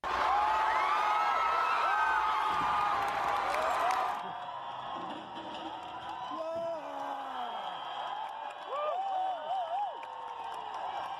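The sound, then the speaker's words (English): A large crowd in Bristol, UK, cheers in a frenzy as rioters dump the toppled Colston statue into the harbor: a dense roar of overlapping whoops and shouts that drops to thinner, scattered cheering after a few seconds, with rising and falling yells continuing throughout. “As the people cheer, whipped into a frenzy, as we covered last week.”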